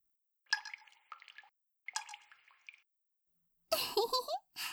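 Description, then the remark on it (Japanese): A soft voice mimics water dripping in two short rhythmic bursts, followed by a brief louder wet, squishing splash near the end. “ポタポタ、ポタポタ。”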